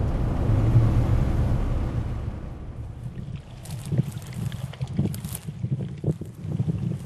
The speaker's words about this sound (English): It's a windy afternoon here at Borg. The land is very green, with lots of rocky ground and long grass.